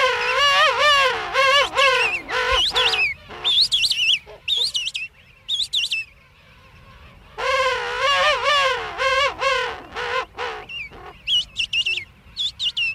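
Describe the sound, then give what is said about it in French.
King penguin parents and a chick calling back and forth: loud, warbling trumpet-like calls with pulsing harmonics, repeated in bursts with short pauses, over a low steady rumble of background noise. “Là, on entend des parents qui se répondent et un poussin entre les deux.”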